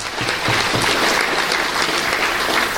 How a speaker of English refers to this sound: So thank you all, and I hope everyone gives them a round of applause to the organizers at UNAC for this great, great job.